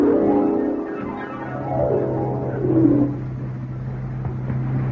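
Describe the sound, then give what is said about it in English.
A police car engine drones steadily as it drives along, its pitch rising and easing slightly as it goes, fairly loud with no one talking. “Slow down at this corner, Blue Bottle.”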